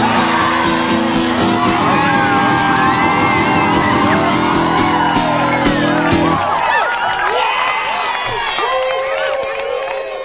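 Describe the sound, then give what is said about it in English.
A big crowd shouts and whoops continuously, with many overlapping voices rising and falling in pitch; a low droning tone underneath cuts out partway through while the cheering carries on. “What what a big crowd you have there.”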